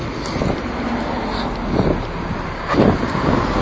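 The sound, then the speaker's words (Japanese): A car passes on a street in the daytime, its rushing road noise swelling briefly and fading, set against steady outdoor wind buffeting the microphone. No one speaks. “あ、なんか車のドライバーと目が合った気がしましたね。”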